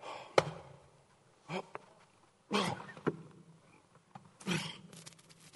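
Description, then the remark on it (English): Heavy, labored breathing: four or five loud, rasping breaths in an uneven rhythm, each a broad gust of air separated by short pauses. “Now I'm breathing pretty heavy now.”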